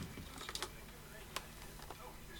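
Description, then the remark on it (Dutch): A few scattered, irregular clicks of typing on a computer keyboard, fairly quiet, with short pauses between keystrokes over a low background hum. “Ik kan mezelf niet het zwijgen opleggen als ik niet het toetsenbord terugvind.”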